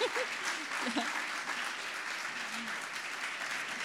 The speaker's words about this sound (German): Und darf ich mal die Täuflinge sehen, die da sind? Steht doch mal auf und ihr anderen gebt ihnen mal einen herzlichen Applaus. Die Täuflinge.